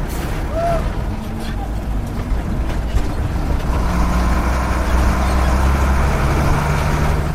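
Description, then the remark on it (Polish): An old car carrying tourists on a ride at a bunker site roars and strains as it bounces hard over rough ground, with steady rumbling, clattering and rattling throughout. “Powiem tak, no nie oszczędzamy tych samochodów, mimo ich wieku, także no sprawia to na pewno dużą frajdę.”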